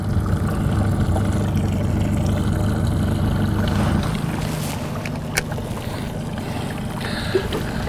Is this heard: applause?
no